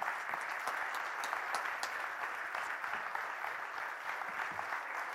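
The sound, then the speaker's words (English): Sustained applause from a standing audience welcoming a guest speaker as he comes up, a dense, steady patter of many hands clapping at an even loudness for about five seconds, with no voices standing out above it. “Just stand up, give him an applause as he comes.”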